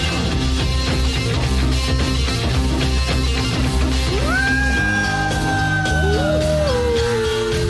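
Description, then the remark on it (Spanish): Wolves howl in long, sliding, overlapping cries that rise and then slowly fall, coming in midway over loud, steady rock music that plays throughout, the howls being part of the rock song itself. “Hay una convocatoria de lobos y lobetnos.”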